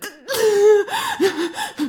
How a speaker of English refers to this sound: What is it? You're panting and shuddering.